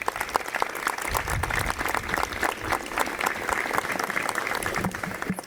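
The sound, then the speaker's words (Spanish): A crowd claps steadily for several seconds, a dense, even patter of many hands at a fairly loud level with no voices rising above it, welcoming the town's festival councillor at the presentation of the Fiestas del Cristo 2023 programme in Tacoronte. “Adelante, un aplauso para recibirla.”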